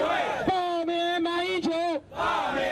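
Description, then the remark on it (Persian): A protest march crowd in Taipei, Taiwan, opposing the meeting between the presidents of China and Taiwan, chants in unison: one long, loud, steady-pitched shout lasting about a second and a half, rising above a constant roar of crowd noise that continues before and after. “اما سیاستمداران مخالف حکومت تایوان در مورد مذاکرات بین رؤسای جمهور چین و تایوان از قبل نگرانیشان را اظهار کرده و راهپیمایی را در اعتراض به این ملاقات در تایپی پایتخت تایوان آغاز کرده بودند.”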